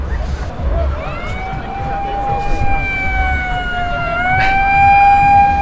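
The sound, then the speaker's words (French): A French gendarmerie car siren wails steadily over street noise, its harmonic tone sliding slightly downward as the vehicle passes, with low traffic rumble underneath and no talking. “Et ben, finalement, elle n'est pas restée bien longtemps, la voiture de gendarmerie.”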